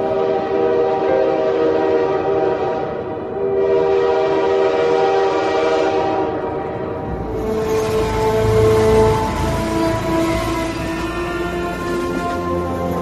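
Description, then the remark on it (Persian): A train rumbles along while its horn sounds in long, sustained blasts, the rolling noise of the wheels swelling louder in the second half. “قطار می رود و تو مرا با خودت برده ای.”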